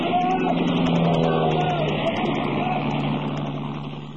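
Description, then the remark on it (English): A loud engine roar from a low-flying aircraft passing overhead, with a steady humming drone that starts to fade slightly toward the end. “That was one of ours that went over.”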